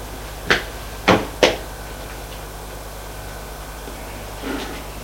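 Three sharp knocks on a door, the last two close together, over a quiet background hiss, followed by a faint softer thud a few seconds later.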